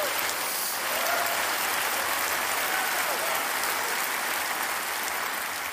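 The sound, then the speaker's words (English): Sustained audience applause, a dense, steady patter of many hands clapping that holds at an even, fairly loud level throughout with no speech over it. “You're just applauding because I could actually say psychological comorbidity and neurodiversity that often predispose and accompany gender dysphoria.”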